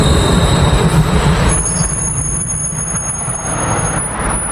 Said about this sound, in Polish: Czasami jak idę na spacer i rzeczywiście tramwaj podjeżdża tam do końca swojej drogi, to hałas jest. Akurat teraz nadjeżdża tramwaj, możemy posłuchać, czy jest tak głośno.